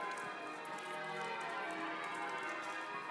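Church bells ring out across a pedestrianised square, their overlapping tones echoing all the way around and sustaining throughout, with faint footsteps and street ambience beneath.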